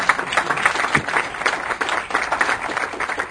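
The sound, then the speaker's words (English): An audience applauds a speaker's pledge to pay teachers better, many hands clapping at once in a dense, continuous patter that holds an even loudness throughout, with no voices rising above it. “You can clap for that.”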